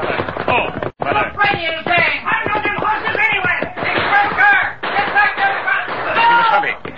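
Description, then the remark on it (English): Rapid, irregular bursts of gunfire crack over a jumble of shouting voices during an outlaw holdup of a stalled railroad train in The Lone Ranger, the shots and yells overlapping loudly and continuously with only a brief gap near the start. “As the Lone Ranger and Tonto urged their horses at top speed toward the stalled railroad train, the sound of gunfire increased.”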